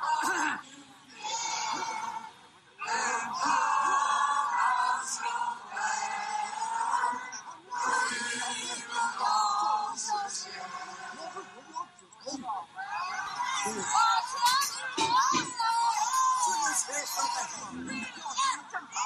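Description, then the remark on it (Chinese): A crowd of over a thousand retirees at People's Square in Dalian, China, on a Wednesday morning, protesting government cuts to medical insurance benefits, sings the Internationale raggedly and out of step, with shouting voices breaking through; the mass of voices stays loud and dense throughout, swelling louder and more chaotic toward the end. “其中有视频中可以听到不很整齐的国际歌声和有人呐喊。”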